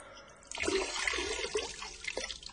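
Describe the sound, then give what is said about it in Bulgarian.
Pouring rain starts abruptly after a brief quiet moment, then keeps up as a dense, steady watery rush with splashy bursts, loud and unbroken, with no voices. “Гледа го продължава да вали.”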